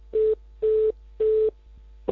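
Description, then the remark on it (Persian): A telephone line tone after a dropped call: three evenly spaced, steady electronic beeps, each lasting about a quarter second, with no voices. “بله بله قطع شد.”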